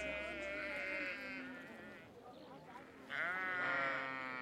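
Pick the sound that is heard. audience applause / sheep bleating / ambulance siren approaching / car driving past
sheep bleating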